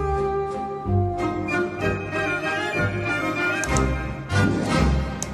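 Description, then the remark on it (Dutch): A few sharp ticks and taps, irregularly spaced, cut through a steady tonal hum, with faint breathy sniffs and gasping among the clicks from someone on the other end of a line; no voices present. “Ja, we horen al wat gesnuif, we horen al wat getik.”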